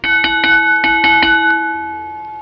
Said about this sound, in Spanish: Te dije que iba a poner una campana, pero lo que no te conté es que era una campana mágica. El sonido que hace es diferente cuando alguien no está diciendo la verdad.